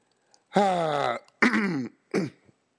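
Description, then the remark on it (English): A man clears his throat in three rough, gravelly bursts, each shorter than the last, close to the microphone with brief pauses between and no speech. “I know I got to clear my throat, boys and girls.”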